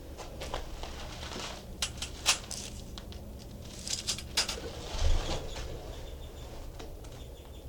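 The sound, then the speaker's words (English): A caged bird, its cage door opened, mimics a finch call with a few short, high, thin chirps in scattered bursts over a steady low rumble and soft rustling. No one speaks. “That was him giving a finch imitation.”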